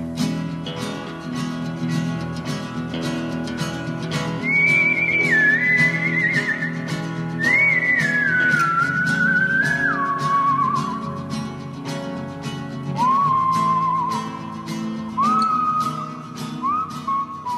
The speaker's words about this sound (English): Everybody recognize that music? That's our theme music. Can any of you whistle our theme music? We bet you can.